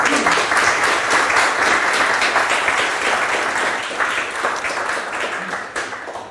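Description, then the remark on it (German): Steady applause from a crowd at the end of a livestreamed net-policy evening at Karl der Große, a dense wash of many hands clapping at an even, fairly loud level for several seconds, tapering slightly toward the end. “In diesem Moment mal ein herzliches Dankeschön und ich hoffe auf einen kleinen Applaus.”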